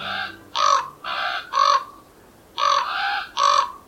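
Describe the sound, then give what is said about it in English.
A common raven gives about seven harsh, throaty croaks in two quick bursts separated by a short pause, loud, with no one speaking. “Ravens play with each other using rocks, sticks, pine cones, even the odd golf ball.”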